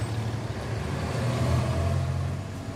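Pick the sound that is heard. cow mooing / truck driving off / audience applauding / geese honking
truck driving off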